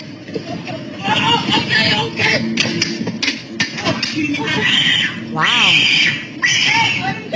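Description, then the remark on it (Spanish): An assailant lets out shrill, squealing screams like a pig's, rising and falling in pitch, with one loud drawn-out wail near the end, over a noisy crowd of people talking. “Parecía que estaban matando un marrano, ¿verdad?”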